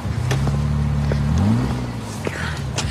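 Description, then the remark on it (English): A car engine hums steadily, then revs up with a rising pitch before quickly fading as the car drives away, leaving faint background noise. “Wow, that's a really nice car.”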